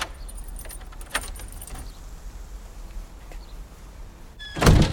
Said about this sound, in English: Later, Connor walks down a narrow road. He angrily kicks a rock. He reaches his rustic house and unlocks the front door.